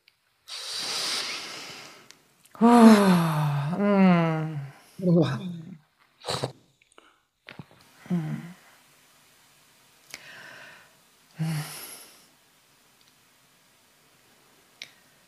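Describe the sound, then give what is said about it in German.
A long, deep breath drawn in, followed by a voiced sigh and a few soft murmurs and short exhales separated by quiet gaps. “Oh ja, da noch mal kurz atmen.”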